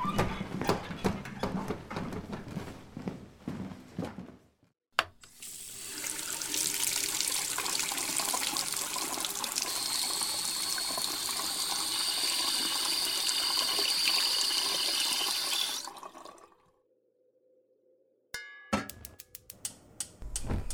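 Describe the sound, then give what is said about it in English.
Clattering and clinks in a kitchen give way to a steady rush of tap water pouring into a kettle, to be heated on the stove for hot chocolate, for about ten seconds, its tone rising as it fills, then a brief hum and a few sharp clicks. “And while we're waiting for the kettle to warm up on the stove, I'll explain a little bit of the background to our first story.”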